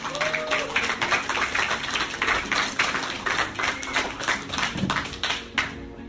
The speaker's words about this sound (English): Let's get a big round of applause going